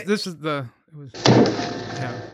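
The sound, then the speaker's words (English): A voice speaks briefly, then a man knocks on a prop meant to be ten times stronger than diamond: a loud hollow thunk like plaster and wood or papier-mâché, followed by a second of dense, rattling resonance that fades slowly. “It's like, why does it sound like plaster and wood?”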